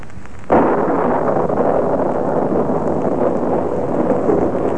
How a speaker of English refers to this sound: Raining again. What a climate.